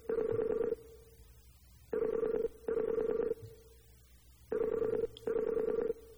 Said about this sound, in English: Well, ladies and gentlemen, you're listening to Skype ringing, and actually I don't know who this is. He doesn't seem to be there,